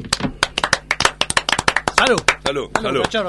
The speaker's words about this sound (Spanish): Mortal, aplauso.